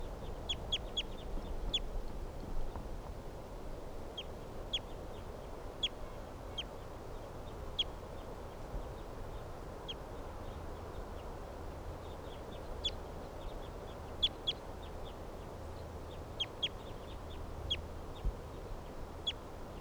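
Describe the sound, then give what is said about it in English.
A group of captive birds calls back and forth, with short, sharp, high-pitched notes popping up irregularly throughout over a steady low background rumble. No one speaks. “With a lot of the other captives responding here.”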